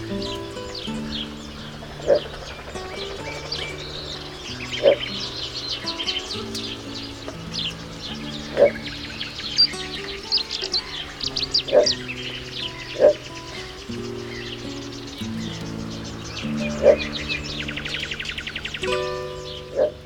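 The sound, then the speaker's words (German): A little bittern gives short, low barking calls repeated every few seconds over a steady, layered background of other birds and tonal sounds, with no one speaking. “Das war die Zwergdommel.”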